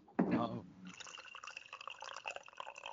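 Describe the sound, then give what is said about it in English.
A brief voiced sound opens, then liquid pours steadily into a glass, a bright, trickling splash with small drips that continues to the end. “I was gonna say that's the sound of peeing.”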